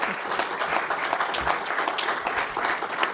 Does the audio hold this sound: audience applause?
yes